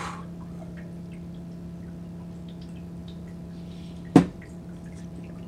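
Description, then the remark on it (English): A single quick, wet sip of a drink breaks a steady low electrical hum about four seconds in, sharp at first and fading fast. No one speaks. “Another sip, here we go.”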